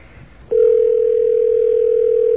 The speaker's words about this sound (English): Okay, we'll let this ring for a little while. Maybe somebody will pick up and tell us something.